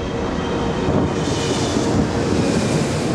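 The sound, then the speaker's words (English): A steady, broad roar of jet engines from an airplane beginning to taxi on the runway after the jetway door closes, a constant rumbling hiss that holds at the same loudness throughout, with no voices. “The door to the jetway closes, and the plane begins to taxi without Peaches and Miss Bag aboard.”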